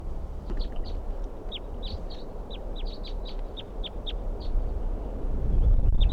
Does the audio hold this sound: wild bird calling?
yes